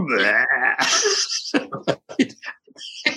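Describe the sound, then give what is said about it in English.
A voice imitates Stitch letting out a long, loud, rumbling belch lasting over a second, followed by a few short, choppy vocal bursts and breathy noises. “And Stitch lets out this enormous belch.”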